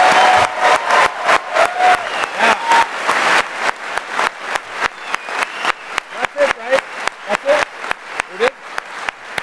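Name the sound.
audience round of applause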